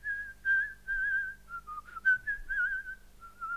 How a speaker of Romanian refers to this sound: Am auzit fluieratul.